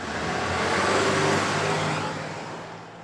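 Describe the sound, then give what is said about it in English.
A police patrol car's engine rumbles steadily, then eases off and fades a little as the car drives away up the road with its lights flashing. No voices are heard. “He gets in the patrol car and drives it off with its lights flashing.”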